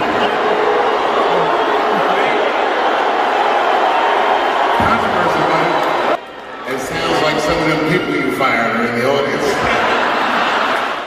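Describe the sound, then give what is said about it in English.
A large audience at a Dave Chappelle show boos loudly as the world's richest man is introduced, a sustained roar of jeers mixed with some cheering. It dips briefly partway through, then swells again with scattered shouting voices. “So what I find interesting about this is, for one, Dave Chappelle insulted his own audience by saying the people that were booing had like the cheap seats and weren't prepared.”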